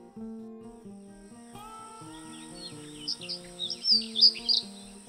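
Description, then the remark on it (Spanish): A ground-nesting bird gives its not very melodic song of short, shrill, very high-pitched trills, repeating in quick bursts during the second half, heard over a soft, steady musical background. “Su canto no es demasiado melódico, se basa en un trino corto y chirriante, muy agudo y repetitivo.”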